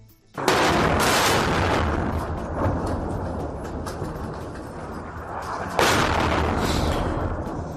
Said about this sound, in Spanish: Es tal cual el sonido de los disparos, del bombardeo de la aviación.